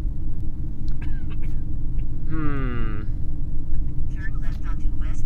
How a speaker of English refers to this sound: This is a car ride of equality.